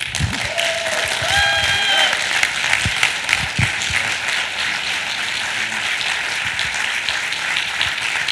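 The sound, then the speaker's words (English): An audience in a church applauds steadily, a dense wash of many hands clapping at an even loudness throughout, with a few brief tonal whistles or cheers rising above it early on. “Go ahead, clap for him.”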